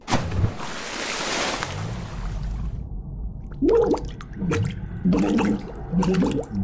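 A loud splash of water in a bathtub gives way to low, murky underwater gurgling, with a muffled, garbled voice speaking underwater and bubbling through in short bursts.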